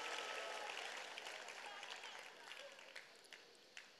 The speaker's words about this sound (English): All those of you online, we welcome you. I see over 1,500 people joining us. Oh, clap for them. Clap for those online.